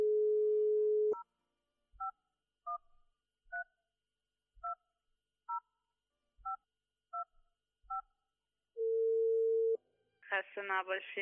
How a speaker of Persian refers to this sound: بعدش از جای خود بلند شد و گوشی تلفن برداشت و شماره تلفن داخل تصویر را گرفت تا التماس دعا بگو و کمی سبک شد.